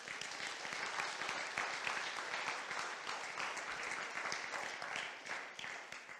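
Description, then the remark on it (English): A crowd claps for a group of young people steadily for about six seconds, a dense, even patter of many hands with no voices over it, staying fairly loud throughout before easing slightly near the end. “A clap for these young people.”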